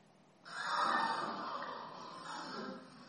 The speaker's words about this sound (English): I thought I'd get you all to gasp, but found the sound anyway.